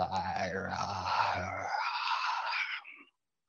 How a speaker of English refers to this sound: Your jaw, let's give the jaw a little stretch. You might move it side to side and open it. Make a little sound. Don't be afraid to make sounds. It's very helpful in the release. If it feels okay, you don't have to. Yawn.